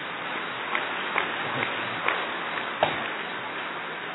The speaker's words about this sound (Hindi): और फिर एक्टिव कितनी है, एक्टिव एक्यूरेट और अट्रैक्टिव दादी जी, तो इनके लिए खूब जोरदार तालियां बजाइए।